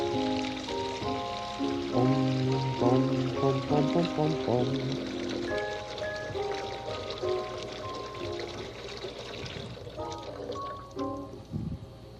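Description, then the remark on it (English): Water runs steadily into a kitchen basin to test whether a boat floats, a continuous rushing and splashing that lasts throughout, with soft musical tones playing over it. “Like to watch water run into the basin like that?”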